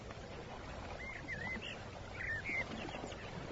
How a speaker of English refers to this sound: Birdsong.